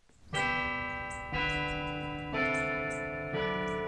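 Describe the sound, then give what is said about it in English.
The bells of Holy Cross Catholic Church in the farm town of Linden, about an hour south of Sacramento, ring out in four loud, evenly spaced strikes about a second apart, each tone resonating with rich overtones that hang and overlap into the next. No voices are heard. “The bells of Holy Cross Catholic Church punctuate an uneasy calm in the sleepy farm town of Linden, about an hour south of Sacramento.”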